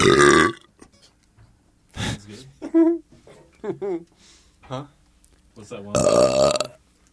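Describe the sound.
A loud, rumbling belch into an RE20 microphone opens, then voices talk briefly, and a second long, raspy burp swells up near the end.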